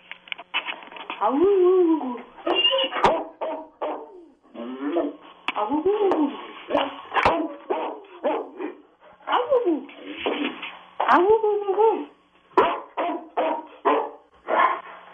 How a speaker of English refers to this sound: What is Matto gonna sing? He's an English Mastiff, and he sings the blues. The blues.